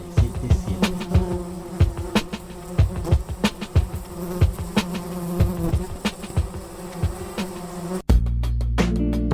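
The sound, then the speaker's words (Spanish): A housefly buzzes loudly in a radio station jingle, its drone wavering with sharp clicks and taps, then cuts abruptly to a steady, harsher buzzing tone near the end. “Revoloteando en el aire. La Mosca Radio FM 87.7.”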